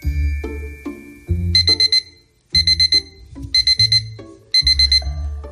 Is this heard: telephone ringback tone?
no